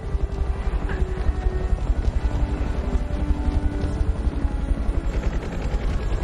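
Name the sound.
helicopter rotor noise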